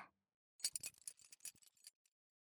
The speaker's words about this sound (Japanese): ズボンのベルト、外しますね。